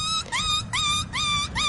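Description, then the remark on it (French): A person imitating a sheep makes a high, wavering bleat that repeats in about four quick pulses, fairly loud over a low background rumble, with no talking. “Ça, c'est le mouton.”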